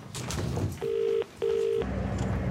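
Two steady electronic telephone tones sound in quick succession, each lasting under half a second with a short gap between, clear over a low background rumble, as someone in the back of a taxi calls a mobile phone.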